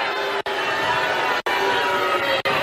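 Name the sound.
crowd booing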